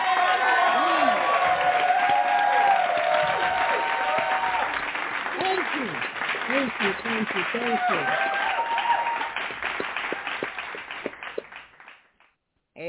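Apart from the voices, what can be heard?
audience hand clapping applause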